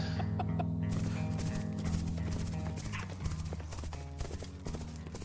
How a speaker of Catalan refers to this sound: Ho sents? Són les petjades dels cavalls dels meus homes.